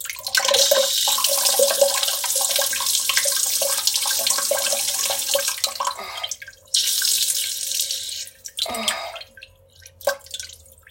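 After drinking a lot of fluids, a person urinates: a urine stream splashes loudly and steadily into water for several seconds, stops briefly, gushes again in a shorter burst, then tapers off into a few scattered drips. No one speaks.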